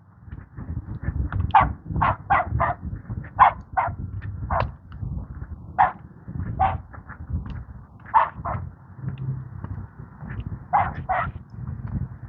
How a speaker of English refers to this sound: Yap, yap, yap. I have no idea what that dog is barking at. He's walking along on a leash.